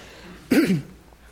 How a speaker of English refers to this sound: I'm just getting over a cold. I'm not contagious, honest, but it's one of those lingering after effects if you've ever been there. So if you hear me clearing my throat, I already ask your forgiveness. I'm not just being rude.